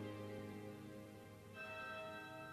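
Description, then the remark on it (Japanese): An evening church bell marking sunset rings with two resonant strikes about a second and a half apart, each leaving a long, shimmering hum that lingers. It sounds fairly soft, with no voices present. “はあ、夕べの鐘が鳴っているよ。”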